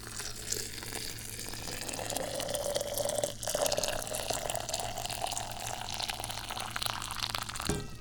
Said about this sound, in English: Alright, so I need to get a better grip on the hot boiling water so I can pour it into the teapot.